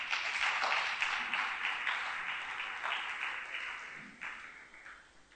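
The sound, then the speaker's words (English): A crowd applauds for themselves, steadily with dense, continuous clapping that stays loud throughout and tapers off slightly toward the end. “Clap for yourself.”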